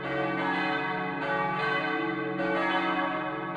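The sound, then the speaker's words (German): Deep, full-bodied church bells peal continuously from the tower of the Emanuel church in Ronndorf, an unusually deep, voluminous set cast at the same foundry as the four Catholic church bells; overlapping strikes sound every second or so with long, rich resonance, loud, with no voices. “So hängt nun im Turm der Emanuelkirche ein ungewöhnlich tontiefes und voluminöses Geläut, das aus genau derselben Gießerei stammt wie die vier Glocken der katholischen Kirche, nur genau 35 Jahre jünger ist.”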